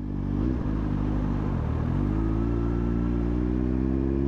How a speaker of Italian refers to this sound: Prende la pistola. Sale in moto e parte.